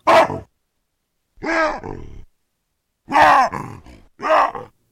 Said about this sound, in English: Our guests on today's show want to know what baboons have to say to each other and what's going on in their minds as they scream, grunt, and wahoo. They've recorded vocalizations of wild baboons and analyzed what they communicate.